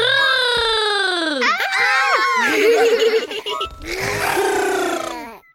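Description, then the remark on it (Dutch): A child's voice makes loud, drawn-out animal-like cries and squealing roars in several bursts, imitating a tiger, with strained high pitches and rough growly breaks between them. “…, wil je ons voordoen hoe een tijger doet?”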